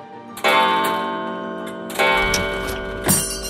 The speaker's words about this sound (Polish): Od Korpusu Oficerskiego 66. Pułku Piechoty. I to jest taki zegar nagrodowy, zresztą bardzo kultywowany zwyczaj w jednostkach Wojska Polskiego przed wojną.